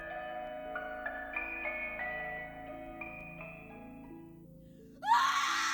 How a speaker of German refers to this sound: Der Schrei gellte durch die Dunkelheit. Laut, schrill und voller Verzweiflung.